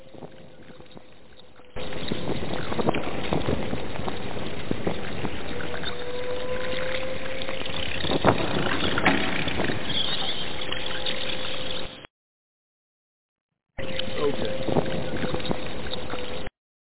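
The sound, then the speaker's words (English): A fruit bat alert sound effect plays: a dense, rushing wash of chattering noise with a steady low hum, running continuously, cutting out briefly, then resuming. “That's my fruit bat alert.”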